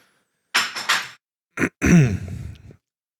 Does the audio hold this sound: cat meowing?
no